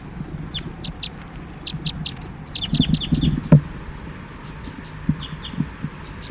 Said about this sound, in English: The birds are becoming aware of the net. Fight calls now by the cage birds.